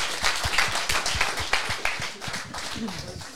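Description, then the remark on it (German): Audience applause: dense, steady clapping from many hands filling the whole stretch, with individual claps popping out of the wash and a voice briefly audible underneath near the end. “ja super, das ist dein Applaus”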